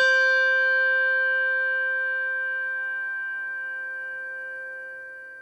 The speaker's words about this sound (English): And before we get to the decades-long war, I'm just going to play you what they were fighting over. This is a Schulmerich bell, the one with the tang.